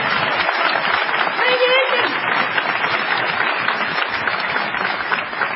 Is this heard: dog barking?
no